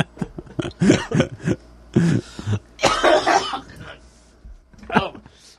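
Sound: hard coughing fit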